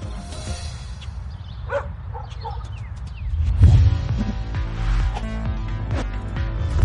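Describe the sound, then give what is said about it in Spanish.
A dog gives a few short, sharp barks over a busy, steady background, with the sound growing fuller and louder in the second half. “Él es nuestro perro Baba.”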